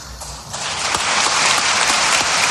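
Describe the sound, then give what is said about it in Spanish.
Audience applause at a university event swells within the first half second into a steady, dense clatter of many hands clapping, loud and sustained with no voices rising above it. The people are applauding the Queen as she breaks down emotionally. “Ahí se rompe la reina, se rompe y tarda un poquito en recuperarse, la gente la aplaude y ahí coge un poco más de resuello.”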